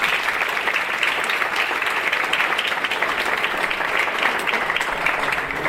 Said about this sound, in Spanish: pido un aplauso para Abelardo